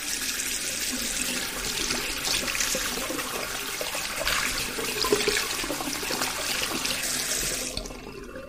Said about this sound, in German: Dann kann ich den Wasserhahn aufdrehen und meine Hände waschen. Mit Seife.